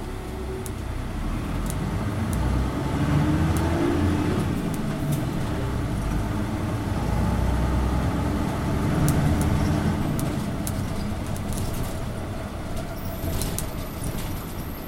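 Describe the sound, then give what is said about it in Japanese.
A city bus rumbles as it pulls away and drives on after its doors close, following a long wait at a traffic signal, its low engine drone steady, with faint clicks and rattles scattered over the continuous road noise. “ドア閉まります。大変お待たせいたしました。車動きます。”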